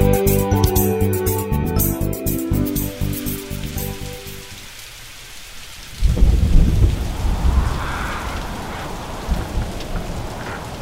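Steady rain patters throughout, then a loud rumble of thunder breaks in around the middle and rolls on beneath the continuing downpour. No voices are heard.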